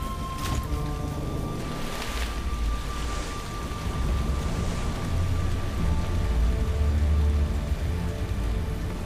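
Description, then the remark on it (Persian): Heavy rain from a very large storm pours down steadily and loudly over a forest, with deep rumbles of thunder rolling underneath and a sharp crack near the start. No one speaks. “اما طوفان خیلی بزرگه.”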